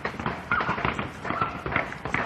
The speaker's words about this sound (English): So that hammering and tonguing that you can hear, without a doubt, the bangity bang bang.